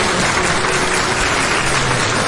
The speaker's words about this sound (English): Round of applause.